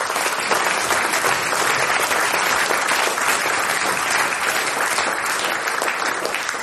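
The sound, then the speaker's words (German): Sustained audience applause, a dense, steady wash of many hands clapping at an even loudness throughout, with no pauses and no voices standing out. “Ist dein Applaus.”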